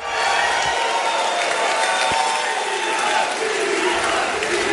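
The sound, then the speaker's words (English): Tesla shareholders applaud and cheer at the firm's annual meeting after approving a record pay package for Elon Musk: a dense, steady wash of clapping and whoops from a large audience that stays loud and unbroken for the full five seconds. “The unprecedented deal drew huge applause at the firm's annual meeting overnight.”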